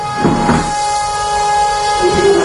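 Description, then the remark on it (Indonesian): Chairs and tables are dragged across a floor, echoing through a room, producing a loud, continuous grinding scrape with harsh squealing overtones that rises and falls over a couple of seconds, with no voices. “Ada suara kursi dan meja sedang digeser-geser.”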